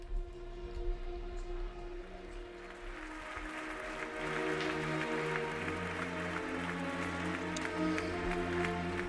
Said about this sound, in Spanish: Ahí está ese aplauso de Madrid para los que nos dejaron.